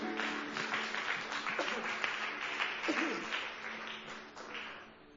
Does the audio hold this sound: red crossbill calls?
no